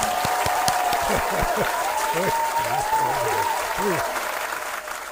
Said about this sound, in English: Can we have some applause? Yes.